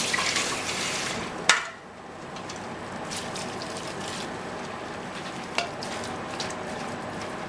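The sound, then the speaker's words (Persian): A little cold water splashes and pours into a pot while rice is being cooked and drained, ending with a sharp metallic clank, followed by a steady crackling hiss with occasional small knocks; no one speaks. “یکم آب سرد داخل قابلمه.”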